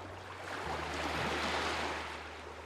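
ocean waves

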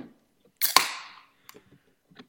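beer being opened

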